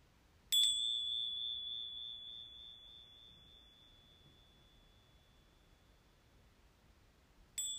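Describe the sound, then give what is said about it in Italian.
Two strikes of a small chiming bell: the first at the start rings out as a clear, high, pure tone that fades slowly over several seconds, and a second strike comes right at the end. “E delicatamente, al suono delle campanelle, permetti ai tuoi occhi di chiudersi o di rimanere socchiusi.”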